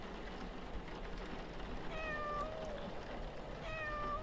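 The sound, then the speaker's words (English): A cat outdoors getting drenched in the rain meows twice, a drawn-out cry followed by a shorter one, over a steady hiss of rainfall that fills the background throughout. “Oh no, is that your cat? Looks like he's getting drenched out there.”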